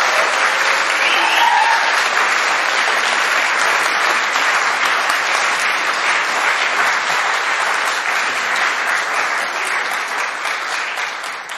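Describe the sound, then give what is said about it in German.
Sustained warm applause from an audience welcoming guests to the front, a dense, steady wash of clapping hands that holds loud for about ten seconds before beginning to taper off slightly at the end. “Und ich bitte Sie mal mit einem warmen Applaus hier vorne willkommen zu heißen.”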